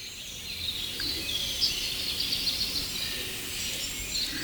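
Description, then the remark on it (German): A dense woodland chorus of birdsong, including a song thrush, robins and a firecrest, with many high, thin chirps and trills layered together, steady throughout with no voices. “Natürlich auch eine Singdrossel und Rotkehlchen und sogar ein kleines zartes Sommergoldhähnchen war mittendrin.”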